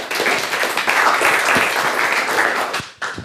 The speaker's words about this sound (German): Dann geht's los mit einem kleinen Applaus.